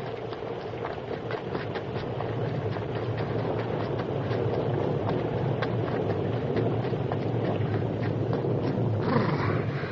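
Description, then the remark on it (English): A thunderstorm pours down in a steady, dense roar of rain and wind, with a continuous low rumble underneath and crackling patter throughout. No voices. “Worst storm I ever saw.”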